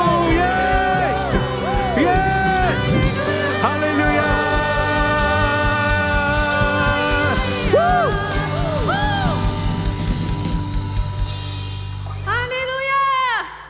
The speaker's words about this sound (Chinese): 哈利路亚，让我们就来欢呼。